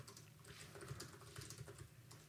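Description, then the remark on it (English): Rapid, irregular clicking of keys on a computer keyboard, a steady flurry of light, fairly quiet taps, with no voices. “You're doing that fake typing thing where it just sounds like you're like.”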